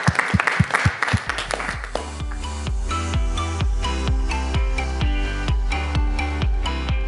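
Audience applause, a dense crackling wash, fills the first two seconds over a thumping beat, then fades as music with a steady bass line and regular kick drums takes over.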